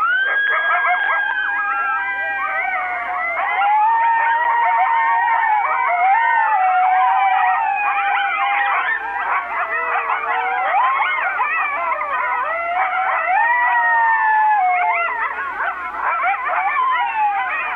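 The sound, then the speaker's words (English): A chorus of eastern coyotes howls continuously in the woods in January, during breeding season, overlapping wavering howls, yips and high screeching wails filling the whole stretch at steady loudness, with no talking. “As I looked out the window from the darkened room, studying the menacing silhouettes, the ominous stillness was suddenly shattered with bloodthirsty howls.”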